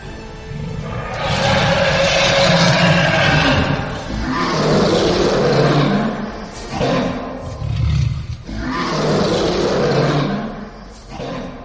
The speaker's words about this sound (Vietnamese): Không không gầm lên một tiếng, biến ảo thành một con cự thú hình thể không nhỏ. Ở trên không trung, cự thú không không gầm lên một tiếng kinh thiên động địa, vô cùng đáng sợ thị uy.